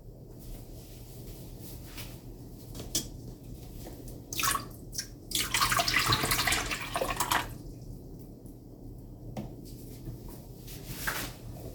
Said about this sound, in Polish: Wlejemy na razie 250 ml do urządzenia. Teraz drugą porcję wody ciepłe również wlewamy.